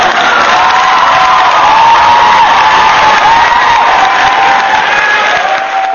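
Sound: played applause sound effect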